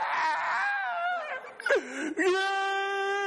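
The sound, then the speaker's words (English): A voice imitates a parrot heard from a downstairs apartment in Honduras mimicking a crying baby: a loud, wavering wail that sags, breaks into a short whimpering dip, then rises into a steady, nasal sustained cry. “I remember going to Honduras, and one of the trips, we were upstairs apartment, and there was a downstairs apartment, and I'm telling you what, there was a baby crying nonstop.”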